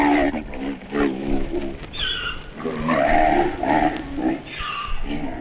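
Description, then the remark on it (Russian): An angry Grevy's zebra brays in harsh, donkey-like bursts, a string of loud squealing honks and wheezy grunts repeating, with no talking. “Брэм писал, что зебра Грэви напоминает дикого осла по”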